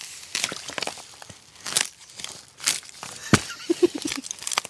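Frozen puddle ice on a hiking trail crunches and crackles underfoot in a series of uneven, brittle bursts, with one sharp snap near the end followed by a few quick clicks.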